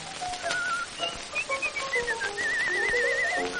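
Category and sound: human body sound, person whistling a tune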